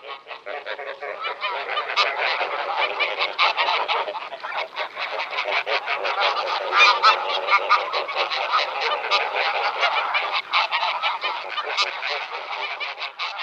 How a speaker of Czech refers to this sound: Podle hlasu by si mohl leckdo myslet, že jsme omylem zařadili hlas domácí husy, ale nejde o omyl. Naše divoká husa, husa velká, je totiž pramátí domácí husy a veškeré hlasové projevy mají obě husy zcela totožné.